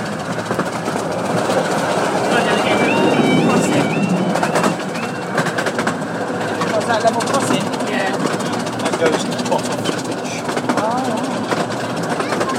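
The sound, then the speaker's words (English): A level crossing alarm on the Romney Hythe and Dymchurch Railway, a miniature steam railway, rings out in a rapid alternating two-tone pattern, rising over the steady rumble and clatter of the moving steam train, then fading as the train passes, with faint voices in the background. “That alarm sound was the level crossing.”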